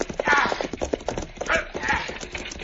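animal, galloping horse hooves

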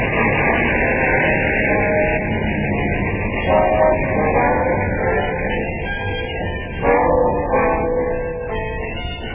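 vehicle, car engine running

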